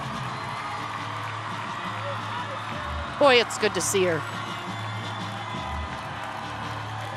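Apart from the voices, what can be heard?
crowd of supporters cheering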